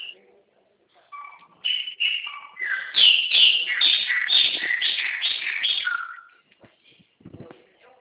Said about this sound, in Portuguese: É muito pássaro, é?